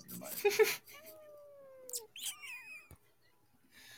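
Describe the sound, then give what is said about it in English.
A cat gives soft, drawn-out meows and a couple of high chirping trills, after a burst of wet smacking kiss noises at the start as its owner kisses it. “Someone's making out with their other animal.”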